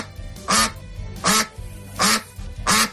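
ducks quacking

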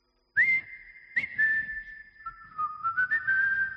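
person whistling

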